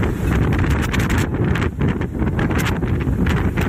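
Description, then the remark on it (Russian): Fierce, roaring typhoon wind blasts steadily against the microphone, with a dense wash of rain driven in streams parallel to the ground and buffeting gusts bending trees and stripping their leaves; loud and unbroken, with no voices. “Вода заливает дома, крыши сорваны, дождь даже не каплями, потоками летит параллельно земле. Деревья гнет ветер, обрывая с них листву.”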